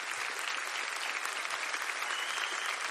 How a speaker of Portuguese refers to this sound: Glória a Deus. Foi exatamente. Pode aplaudir esse ministério lindo.